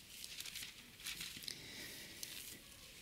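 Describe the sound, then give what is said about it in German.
Soft papery rustling and crinkling of thin Bible pages being turned to Acts chapter 1, with a few brief flicks over a steady faint hiss; quiet, no talking. “Nicht weit blättern, darum gucken wir uns diese Stelle noch an.”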